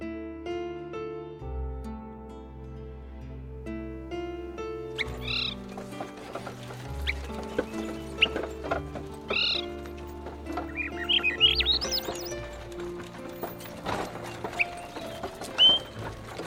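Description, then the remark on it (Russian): Bright bird chirps and short trills in a June birch forest pop up repeatedly over a gentle, sustained musical backdrop, starting a few seconds in and growing busier toward the end, clear. “Березы радуются летнему наряду, птицы щебечут одна звонче другой.”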